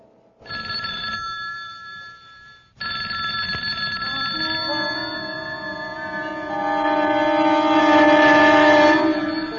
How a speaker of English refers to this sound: Late at night, in a quiet house, the telephone in an upstairs bedroom begins to ring. Its ringing penetrates the defenses of the subconscious mind, alerting, awakening.